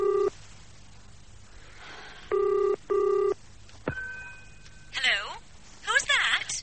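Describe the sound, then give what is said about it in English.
A telephone ringing tone heard down the line in short double bursts, then a click as it's picked up and a thin, filtered voice starts to speak. “I'm ringing, Joan, because Angelica told me to get in touch with you”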